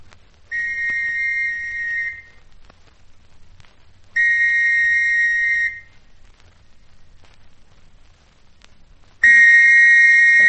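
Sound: police whistle blowing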